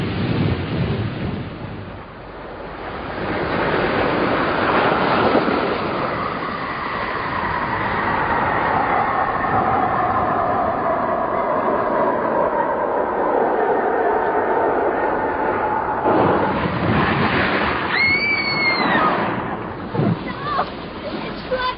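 A craft plunges into the sea about a quarter of a mile off the beach: a loud, rumbling roar with sweeping whine builds for several seconds, then gives way to a heavy crashing burst and turbulent churning near the end.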